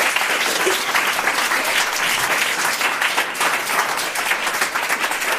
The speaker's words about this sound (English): Just please come on up. Give them a round of applause if they come on up.